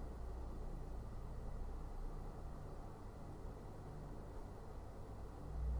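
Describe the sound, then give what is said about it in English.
A steady, low rumble of traffic hums quietly and continuously, a faint wash of engine noise with no distinct vehicles standing out and no voices. “Just like the sounds of this voice or of the traffic don't appear in a void.”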